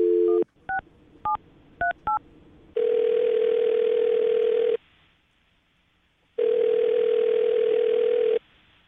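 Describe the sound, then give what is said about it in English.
A brief phone dial tone gives way to a handful of quick keypad beeps, then two long, steady ringback tones with a pause between them, clear with no voices, as a radio morning show host places a phone call. “Well, I'm going to call her right now, see if we can get her on the phone, and then get your second date update, okay?”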